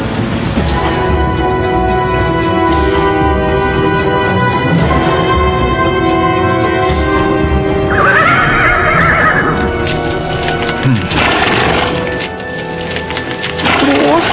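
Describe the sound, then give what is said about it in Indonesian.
A horse carrying two riders whinnies loudly and repeatedly while its hooves clip-clop steadily underneath throughout the whole stretch. “Sekarang mereka berdua sudah duduk di atas kuda.”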